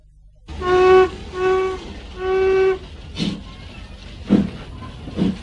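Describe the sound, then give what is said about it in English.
A steam train whistle sounds three times in quick succession, followed by several sharp hissing chuffs and clanks as the train gets underway, with no talking. “Come along then, child, we've got to get on the train.”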